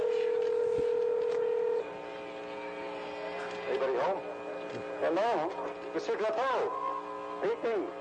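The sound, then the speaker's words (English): A steady telephone tone gives way to a run of electronic touch-tone beeps as a portable cellular phone is dialed for the first official call from Toronto to Montreal over the CanTel network, clear, with faint voices murmuring underneath. “First phone call officially from Toronto to Montreal over the CanTel network.”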